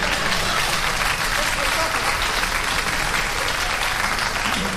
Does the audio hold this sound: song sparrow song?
no